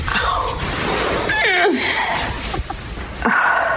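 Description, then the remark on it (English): A woman lets out a strained, effortful moan that slides downward in pitch as she gets up, surrounded by breathy grunting noises, fairly loud with no speech. “Listen to these grunts and moans I've recorded of her”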